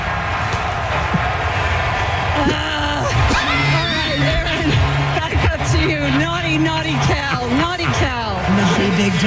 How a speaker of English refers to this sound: Listen to that crowd.